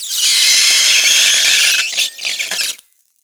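Metal ball bearings on dry ice give off a loud, shrill, steady whine with a hissy edge, then break into choppy, chattering squeals before cutting off into silence.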